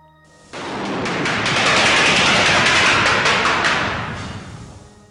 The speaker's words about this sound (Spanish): Cuando hacían 20 o 30 agujeros, metían explosivos dentro. Se escondían todos y explotaban las cargas para romper la pared. Ahí van las explosiones.